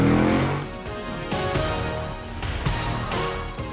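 car engine accelerating

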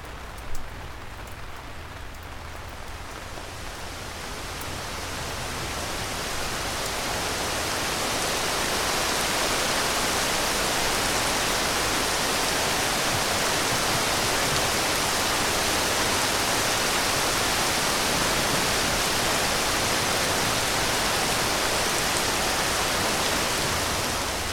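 rain falling

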